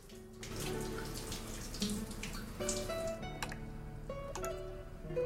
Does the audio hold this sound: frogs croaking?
no